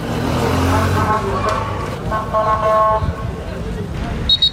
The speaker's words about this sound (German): Die Sirenen der Krankenwagen, die Pfiffe der Polizisten, das Geschrei der vielen jungen Männer. Dazu der Geruch von Notdurft und verbrannten Autos. All das überlagert diesen Tag in Vnidek, dem Nachbarort von Ceuta an der Küste Nordafrikas.